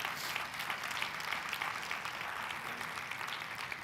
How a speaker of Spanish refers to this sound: ¿Cuántos le puedes dar un aplauso a Jesús?